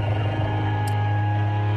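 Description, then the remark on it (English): Calming music for cats from a 10-hour YouTube video: a steady, sustained drone of low, humming tones with faint higher overtones, even in loudness throughout, with no voices or beat. “We talked about the perfect music for calming cats, and there's 10 hours of it on YouTube.”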